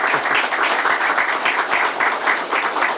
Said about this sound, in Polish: Szanowni Państwo, panie ministrze, bardzo dziękuję i myślę, że oklaski dla pana ministra.